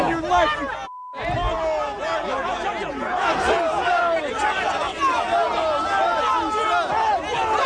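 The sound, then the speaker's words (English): A large, angry protest crowd roars and shouts in a dense, continuous wall of overlapping voices, chanting anti-racism and anti-Trump slogans, with raised yells rising above the din as a so-called free speech protester is escorted by police through it; the noise briefly cuts out near the start before resuming. “He's had to be escorted by police through this very angry crowd who've come out, who've been chanting anti-racism and anti-Trump slogans.”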